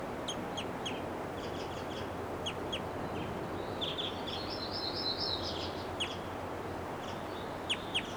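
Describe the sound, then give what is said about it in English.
Short, high flight calls of a female bird repeat in scattered bursts, including a brief buzzy trill midway, all over a steady low background hiss. Nobody speaks. “Now she gave a flight call, now she's itching her face.”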